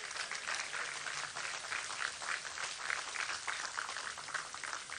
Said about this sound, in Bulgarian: Моля вашите аплодисменти още един път за тях.